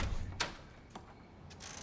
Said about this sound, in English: She opens the door to Darren.